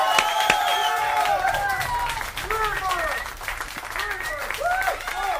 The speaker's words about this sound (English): That's DMC champion plus one. Fantastic. More applause, I think.